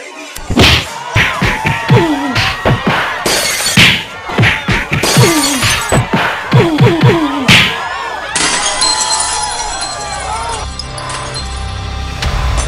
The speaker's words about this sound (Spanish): Carlos cayó sobre la mesa con el puñetazo que le dio aquel gigante